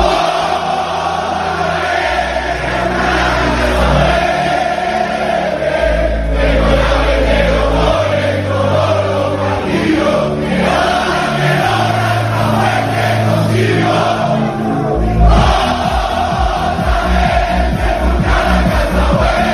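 A loud, dense crowd of Spain national team football fans in Barcelona shouts and chants in celebration during the World Cup over a deep, booming beat that pulses faster toward the end, with no single voice standing out.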